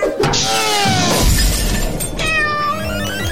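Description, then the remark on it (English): A cat meows loudly, a drawn-out cry at the start and another near the end, with a sharp crash of something shattering in between. “Right now, Always Home is kind of a beta, invitation only, because it might need a little more testing, like with your cat.”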